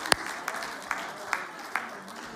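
Scattered audience applause from a small group, soft, with a few sharper claps standing out at a steady pace over a diffuse patter of hands.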